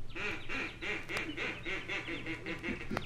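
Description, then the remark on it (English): A duck-call whistle blown to bring ducks flying out, in a quick, steady run of about eight nasal quacks, fairly loud, with no voices. “Look, all you have to do is blow this whistle and you'll see the ducks will come flying out.”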